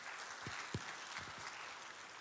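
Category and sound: crowd, audience applauding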